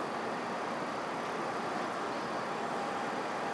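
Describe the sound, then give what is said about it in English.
Steady, broad rumble and hiss of an open railway station platform on a freezing day, a constant wash of traffic and machinery noise with no voices, moderately quiet and unchanging throughout. “It's so freezing at this station, I have to say.”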